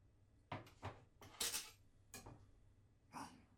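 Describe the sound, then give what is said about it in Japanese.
A knife and cutting board are set down on a counter for cutting garlic chives: a handful of short clacks and knocks scattered over a few seconds, with a bright clattering thump in the middle and no talking. “お兄さん、包丁とまな板のご用意を。”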